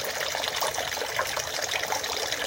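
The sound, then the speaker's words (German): Water runs steadily into a shrine purification basin used for washing hands and mouth, a continuous trickling and splashing with no pauses and no one talking. “Das mache ich jetzt mal nicht, weil wegen Corona und so das ein bisschen gesperrt ist, aber man kann so trotzdem das Wasser rauschen hören, glaube ich.”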